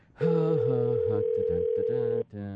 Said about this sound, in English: Of course, it involves me dialing a phone, which sometimes can be problematic, but we'll see.